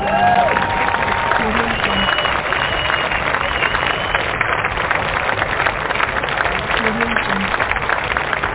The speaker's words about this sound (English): So, let's bring him on. I'm going to give him a round of applause, and we'll bring him on the program.